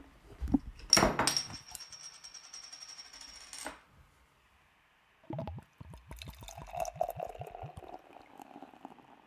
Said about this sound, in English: It is great for beer pouring. Oh my gosh. The pouring action. It sounds good. Pop, glug, glug, fizzle, fizzle.